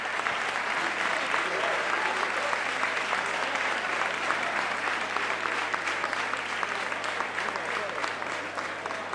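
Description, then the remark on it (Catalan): Sustained applause from a roomful of people fills the assembly hall of Tarragona City Hall (Ajuntament de Tarragona), dense and steady clapping at moderate volume that continues without pause for the whole stretch. “i ara amb l'aplaudiment de la sala d'actes de l'Ajuntament de Tarragona.”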